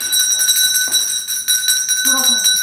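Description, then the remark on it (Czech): A school bell rings steadily and loudly for the whole stretch, a continuous metallic electric ringing, with a brief voice murmuring underneath near the end. “Nebyl to zvonek kostelní, byl to zvonek školní.”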